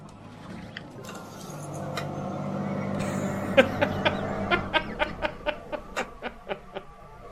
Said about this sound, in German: Okay, ich will kurz predikten, das ist irgend so ein Traktor von irgendeinem Nachbarn, der Feldarbeit oder so macht.